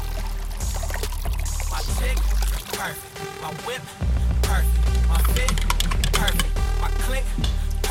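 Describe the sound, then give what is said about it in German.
Water pours and splashes into a glass as a scoop of protein powder is mixed in, a brief watery rush standing out between stretches of loud, bass-heavy music that plays throughout. “Ein Messlöffel Pulver in ein Glas Wasser vermischen und vor und nach dem Training genießen.”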